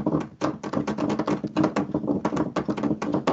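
household object, typing on a keyboard

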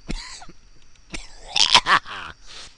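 human body sound, coughing

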